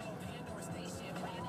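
Steady traffic noise of cars going by across the street, a continuous low rumble and broad hiss with no clear breaks, fairly quiet, with some muffled talking mixed in.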